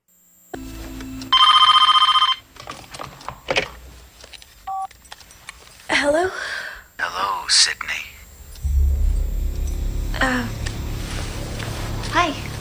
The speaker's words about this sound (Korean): 전화벨 소리가 섬뜩하게 다가왔던 영화 스크림입니다